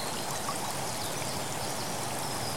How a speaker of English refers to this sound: You start walking towards this waterfall and begin to feel the mist on your face and hands as you approach it. You can now see the water bounce off the rocks and bubbles of air, large and small, popping.